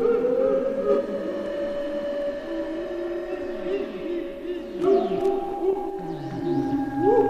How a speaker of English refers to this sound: The ghosts tried to scare them. They clanged chains. They sneaked around and made ghostly sounds.